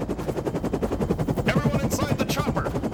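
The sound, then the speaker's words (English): A helicopter's rotor chops in a fast, steady thudding rhythm, loud, with a voice briefly breaking through partway. “Damn, you guys got a helicopter?”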